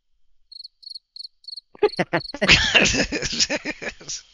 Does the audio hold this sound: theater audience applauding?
no